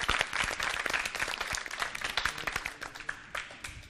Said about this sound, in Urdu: Team اے حوصلہ افزائی کیجیے گا, استقبال میں تالیاں.